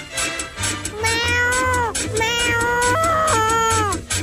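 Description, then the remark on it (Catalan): Two cats meow and yowl in long, rising and falling wails, several cries overlapping one after another, loud, over a steady low rhythmic thump like background music. “S'han enviat dos gats a l'espai exterior i han demostrat que es pot fer.”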